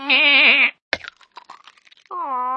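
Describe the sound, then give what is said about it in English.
A loud, wavering goat bleat, then a brittle crackling crunch as the goat treads on an egg and it breaks, followed by another steady bleat. “Well, the goat chewed the curtains and trod on the egg.”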